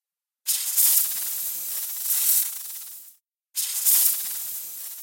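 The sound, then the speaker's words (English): A snake on a pole hisses in two long, sustained bursts, the first lasting nearly three seconds, then a brief pause before a second. The sound is loud and breathy, with no talking. “A snake is on the pole.”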